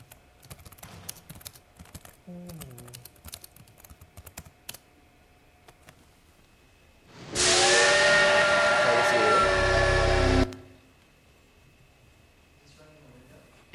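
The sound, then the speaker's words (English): Quick computer keyboard typing clicks, then a loud steam train whistle from the video game Railroad Tycoon 2 blows one sustained blast of about three seconds, its tone steady and slightly hissy. “So, I'll play Railroad Tycoon 2 for you.”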